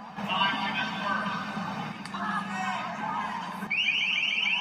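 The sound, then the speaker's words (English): Police sound a loud electronic alarm to warn a crowd of college kids in a square in Denton County to go home; it bursts in abruptly near the end, blaring in rapid repeating high tones over a noisy background of crowd chatter. “Police sounded off an alarm and warned them to go home.”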